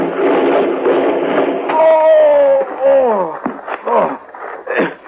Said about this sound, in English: Hey, what in thunder? The wheel. Wheel's coming up. We're going to tip over. Hang on.